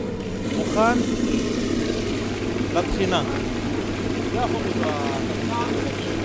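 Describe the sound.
A food grinder whirs steadily, blending chickpeas into hummus with a loud, constant low motor drone, while voices murmur intermittently over the machine.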